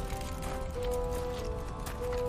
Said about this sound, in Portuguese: Vocês começam a descer. Escuta o barulho de alguém correndo na direção de vocês.